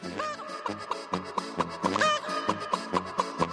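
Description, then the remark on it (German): A small silkie rooster struts past an alpine hut, followed by two hurried hens, clucking in a quick, steady run of short, repeated calls, with one drawn-out rising note partway through. No one speaks. “Ein kleiner Seidenhahn stolziert vorbei, gefolgt von 2 eiligen Hennen.”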